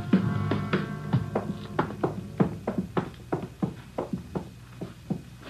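Footsteps climb a dark, narrow wooden stairway to the second floor of a cheap rooming house on Jesse Street, a steady run of about a dozen hollow, knocking treads at an even pace over a low background hum with no talking.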